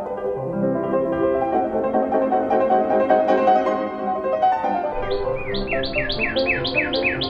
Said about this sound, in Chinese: 突然，他的身边响起一阵清脆的声音，他转过身去，看到知更鸟飞到离他很近的一根树枝上，在那边啼叫着。